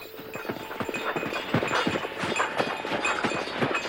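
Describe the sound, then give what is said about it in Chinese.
Donkey hooves clip-clop in a quick, steady rhythm on a hard surface as the donkey departs, moderately loud throughout, with no one speaking. “那只驴子果真像他所说的那样，强壮可靠，而且似乎懂我的意思。”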